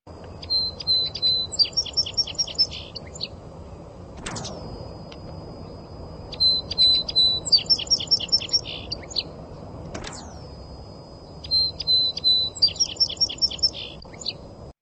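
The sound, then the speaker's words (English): A song sparrow sings three similar bouts of bright trills and notes, evenly spaced, with a sharp piercing tone cutting in twice between songs over a low background hum. “Hey, by the way, we have some sound of a song, Sparrow.”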